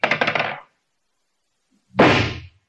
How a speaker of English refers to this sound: with his shotgun in his hands, shooting skeet. Pull!